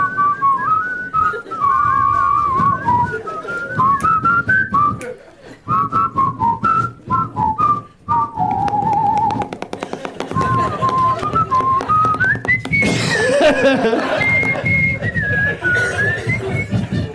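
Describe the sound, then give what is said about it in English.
Someone whistles a lilting, march-like movie theme melody, thought to be from The Great Escape, the tune rising and falling continuously for the whole stretch, fairly loud over a bed of low background noise. “Was whistling a thing that in movies back then?”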